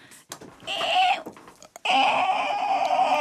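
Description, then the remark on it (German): A voice imitates a creaking door with two drawn-out, nasal, wavering squeals, a shorter one and then a longer, louder one, sounding almost like a bleating or clucking animal. “Ich versuche so ein Türgeräusch.”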